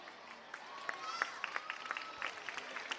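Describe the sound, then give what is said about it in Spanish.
Dense, continuous applause from an audience for a manifesto just read, many hands clapping at once with sharp individual claps popping out, steady and moderately loud throughout, with a faint voice or two underneath. “Un fuerte aplauso para ese manifiesto.”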